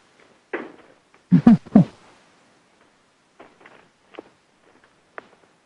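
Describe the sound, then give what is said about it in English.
Irregular footsteps: a few heavy, low thuds early on, then softer, scattered steps and light knocks spread over several seconds, with no talking. “Sounds like we lost our MC, but I hear footsteps.”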